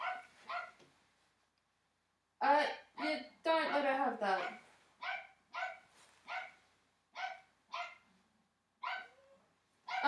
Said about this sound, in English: Great, and now there's the dog.